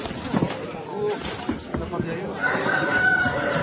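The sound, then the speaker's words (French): A rooster crows at a cockfight, a noisy, crowded setting, its drawn-out call rising toward the end amid murmuring voices and scuffling background commotion. “Après, vous avez un coq qui sauve, un coq qui est accusé.”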